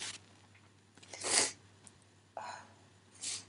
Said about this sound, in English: And I know at the moment it probably won't seem like that, but he's blowing my nose now.